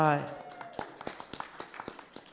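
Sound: clapping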